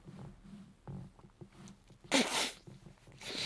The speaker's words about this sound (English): All sneezed up.